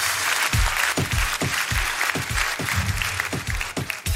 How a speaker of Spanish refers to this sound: Gracias por el tip. Muchas gracias, hermano. Fuerte aplauso para bailarín.